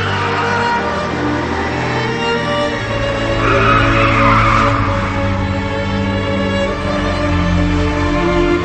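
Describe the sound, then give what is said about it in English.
Car tires skid and squeal loudly over a roaring engine as the car swerves to avoid a jackknifing semi-truck, a continuous screeching sweep that swells in the middle and holds for several seconds with no voices. “He struggles to swerve out of the truck's way.”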